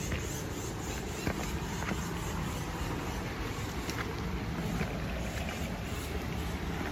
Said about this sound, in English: That is part of the waterfall, I would guess. That water is falling a bit. I believe it said a 10-foot waterfall. Yeah. Maybe it's not sheer, but just the span of it.